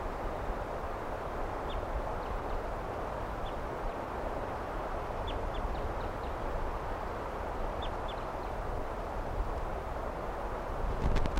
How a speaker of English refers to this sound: Pointed now at 328. Who's calling to the decoy, to the wild bird.